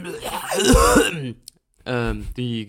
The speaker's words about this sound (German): Die Gärung in meinem Hals erzeugt Schleim, der Schleim erzeugt Husten, der Husten erzeugt Gärung, Gärung des Schleims im Husten.